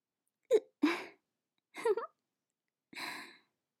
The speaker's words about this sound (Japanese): やばい、しゃっくりが。しゃっくりが止まんなくなっちゃった、どうしよう。